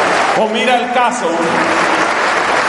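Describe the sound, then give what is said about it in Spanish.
Steady, dense applause from an audience, given in honor of the Virgin Mary, fills the whole stretch, with a raised voice calling out over it briefly near the start before the clapping continues on its own. “Amén, amén, ese aplauso para ella.”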